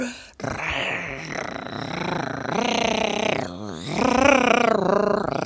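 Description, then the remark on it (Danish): A voice imitates a father and mother both snoring in bed in their bedroom: drawn-out, rumbling, moderately loud breaths in about three long waves, each with a wavering, buzzing pitch, with no words spoken. “De lå og snorkede begge to.”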